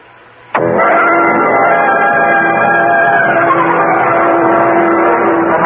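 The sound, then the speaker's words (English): A car engine starts up abruptly and then drones steadily and loudly while the car drives out to the Island Yacht Club on City Island, a sustained hum with a faint rise in pitch partway through. No one speaks. “Hendricks and I got into his car and we drove out to the City Island of the Island Yacht Club.”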